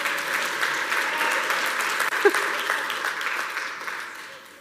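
An audience member claps amid a steady, crackling wash of hand-clap-like noise, with one sharper, louder clap standing out midway through; faint voices murmur underneath.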